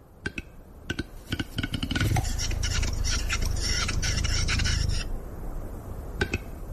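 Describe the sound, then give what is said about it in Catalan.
A Western capercaillie, an endangered bird, gives its display call in the Alt Pirineu Natural Park in the Catalan Pyrenees: a series of sharp, dry clicks that quicken, then a loud rasping, scraping whetting phrase lasting about three seconds, followed by a few more isolated clicks. “I aquest és el so que ens transforma, el del gall fer.”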